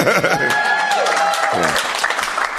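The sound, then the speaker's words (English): A crowd in North America bursts into steady, loud applause mixed with cheering voices and high whoops at the name of comedian Bill Hicks, a dense wash of clapping that holds for a few seconds. “The usual audience of this podcast are not the sorts of people who would cheer at the name of a person, but we can do it here.”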